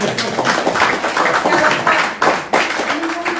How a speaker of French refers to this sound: Je crois qu'on peut vous applaudir encore. Oui.